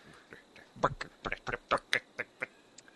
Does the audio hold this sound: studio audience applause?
no